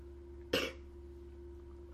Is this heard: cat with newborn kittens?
no